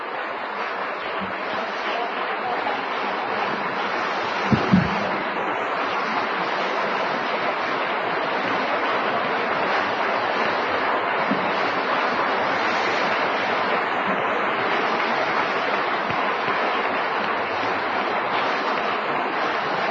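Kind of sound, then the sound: crowd, audience applause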